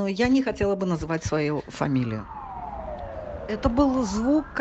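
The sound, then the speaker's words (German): An ambulance siren wails along a city street in Minsk, Belarus, during the Corona pandemic, its pitch sliding down and then climbing again, with a voice talking over the start and end. “Die Sirenen hört man zurzeit immerzu auf den Straßen. Das ist neu. Die Notambulanzen sind anscheinend pausenlos im Einsatz.”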